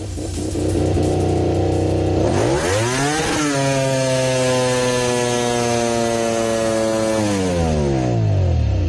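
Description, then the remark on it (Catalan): A motorcycle engine idles loudly, then revs sharply up to a high, sustained whine before easing back down, its droning tone climbing and falling with the throttle. Its rider is picking the crashed motorcycle up, clutch pressed with the engine still running. “Ara sentireu el so de Sky Italia, com la moto escala”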